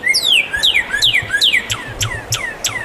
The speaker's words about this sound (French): C'est le cardinal.